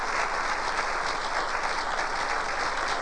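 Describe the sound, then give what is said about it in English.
An audience claps their hands in steady, dense applause for people walking down the aisle to the altar, the many overlapping claps blending into a bright, continuous patter that holds at an even level throughout without any voices. “Well, give them a good hand clap.”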